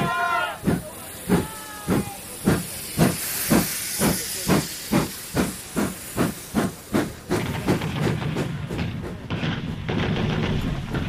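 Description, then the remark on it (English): A steam locomotive chuffs in steady, sharp bursts that gradually quicken as the train accelerates, then dissolves into a continuous roaring hiss of steam, loud. “They shout hurrah, wave their hats, and then the train accelerates. And the steam is everything.”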